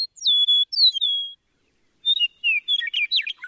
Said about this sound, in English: The eastern meadowlark's clear whistled music is the unmistakable anthem of eastern North America's farmlands and open country.